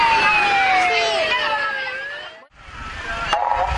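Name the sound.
fire truck siren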